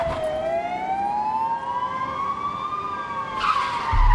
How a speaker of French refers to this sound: Peu avant l'hiver, les gyrophares et les sirènes ont réveillé les habitants.